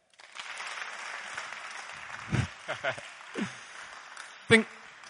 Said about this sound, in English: Clapping and shouting. Psalm 47. Clap your hands, all you peoples. Let's give a clap.